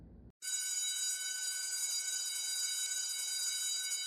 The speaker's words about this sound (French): La sonnerie retentit et je rentre enfin chez moi.